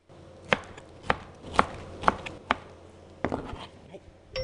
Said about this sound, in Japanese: お皿に盛ったらオクラを茹でたのをトントン1センチぐらいに切ります。